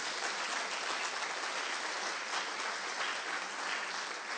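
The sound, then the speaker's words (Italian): An audience applauds for the Lord in a steady, dense wash of clapping that holds at an even loudness for several seconds, with no voices standing out. “Allora facciamo un applauso al Signore.”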